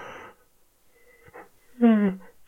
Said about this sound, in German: Seht, ich habe erstmal gegähnt oder hört es, ich habe erstmal gegähnt und dann am Ende, wenn das Gähnen vorbei ist, einfach so ein Njam, Njam, Njam, Njam ausplätschern lassen.